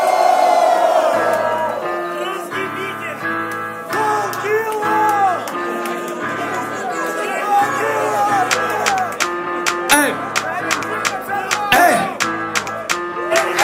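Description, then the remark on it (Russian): A large battle rap audience shouts and cheers loudly and continuously, voices blending into rhythmic chanting of "Chinatown" with sharp whoops rising above the roar, over a steady low pulsing beat. “Лучшая батловая публика.”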